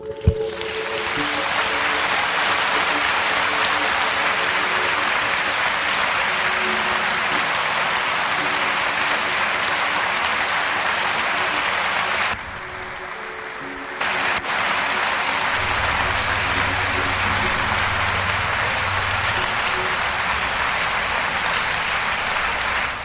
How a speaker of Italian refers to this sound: Un bel applauso conclusivo, diciamo il primo benaugurante applauso di questa Turandot, in realtà, perché questo è veramente il prologo.